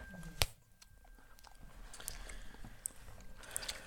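Close, wet chewing of gum with irregular soft smacks and clicks over a faint steady hiss, opening with one sharper snap and no talking.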